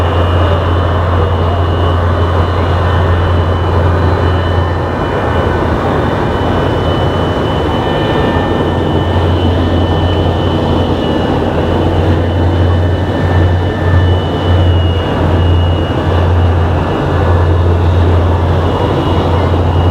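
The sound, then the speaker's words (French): Loud, steady aircraft engine noise fills the whole recording: a deep droning hum with a thin whine on top, as a plane starts up and rolls along the ground before takeoff. No one speaks. “Et l'avion se met en route.”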